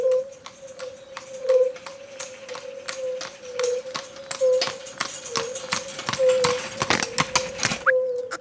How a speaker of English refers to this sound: I remember I was doing a residency a few days in Romania. We were in a small village and just started recording the first day. I went to the field, I put the microphone. And then a few minutes after, a guy came with two horses and a char.